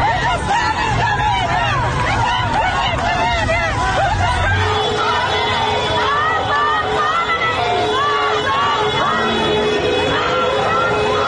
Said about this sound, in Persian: در پی فراخوانی که در روزهای قبل منتشر شده بود. معترضان در بوکان علیه رهبر جمهوری اسلامی و عوامل سرکوب شعار دادند.